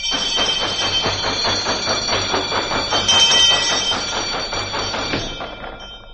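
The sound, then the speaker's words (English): A school bell rings to send the kids home, with a rapid, rattling metallic clatter and bright high overtones, holding steady and loud for about six seconds before trailing off. “Let me ring the bell and send all the kids home.”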